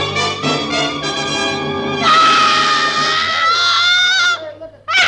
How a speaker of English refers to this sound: And then she threw up her hands and shrieked.